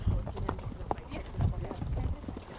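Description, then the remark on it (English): Steady hoof clops of horses being ridden at a walk into sagebrush country where a rancher grazes his cows, one a big brown and white horse named Jack and the other a horse named Bronco, at an easy, uneven rhythm with faint rustling and a voice talking over the footsteps. “and I tuck my recording gear into my saddlebags and get on a big brown and white horse named Jack”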